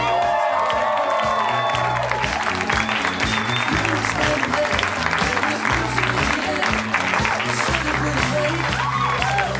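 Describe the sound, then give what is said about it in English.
A crowd at a live Harmontown show on a Saturday night in Hollywood, California claps loudly and steadily as Dan Harmon is welcomed to the stage, with cheers and whoops rising over the dense applause and a murmur of voices underneath. “You're applauding yourselves.”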